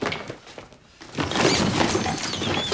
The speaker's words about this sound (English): She opens it and dozens of toys spill out. She stumbles over them to her dry cleaning.